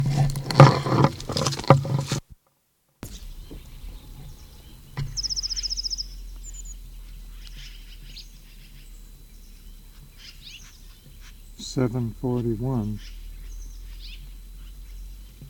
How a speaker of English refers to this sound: Birds start along the old county road, 7:28.